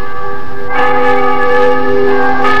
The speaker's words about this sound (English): Church bells on a Sunday morning. So bright and clear in the call to worship. They echo roundly against the mountains behind the valley here. And I never get tired of listening.